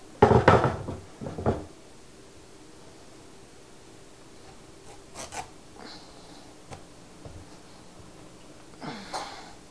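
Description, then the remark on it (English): A loud clatter and clunk as dishes are slid into an oven and its door shuts, followed by quieter scattered knocks and a faint thump near the end. “I'm gonna put these in the oven.”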